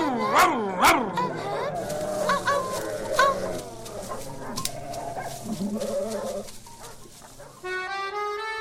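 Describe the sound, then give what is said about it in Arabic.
A voice imitates a big dog's barking, showing how the big dogs bark: a few loud, sharp barks at the start, then gruffer growly vocalizing, with a brief tonal sound near the end. “هيا اذهب ونم خارج المزرعة حتى تكبر وتنبح مثل الكلاب الكبار، هكذا.”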